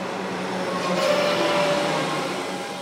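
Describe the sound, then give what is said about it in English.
A steady, loud rumble of a train moving past on the tracks at a train station in suburban Melbourne at 6:30 in the morning, with a faint metallic whine rising briefly in the middle; no voices, just the continuous roar of the passing carriages. “It's 6:30 in the morning, and I'm standing at a train station in suburban Melbourne.”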